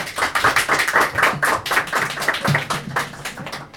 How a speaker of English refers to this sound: So, nice big round of applause for Emma, please.